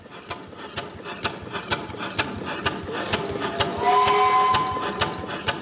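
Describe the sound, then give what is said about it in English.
Rhythmic mechanical clanking of large metal gears and pistons beats steadily, joined midway by a surge of hissing steam and a brief whistle-like tone, fairly loud with no voices. Recorded at Kinetic Steamworks, in a warehouse behind a metal scrapyard in West Oakland. “I'm surrounded by large gears, metal pistons, and billowing clouds of hot, wet steam.”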